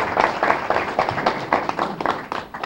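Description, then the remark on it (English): A short burst of audience applause welcoming a guest speaker, a dense steady patter of many hands clapping at once with a bright, crackling texture and fairly even loudness. “So, ladies and gentlemen, I'd like to give a good round of applause for my friend,”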